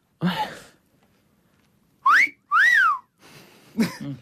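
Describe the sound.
Two loud whistled phrases in Silbo Gomero whistled language, whistling a person's name: a rising-falling tone then a longer arched glide, imitating speech melody, framed by brief breathy vocal sounds before and after.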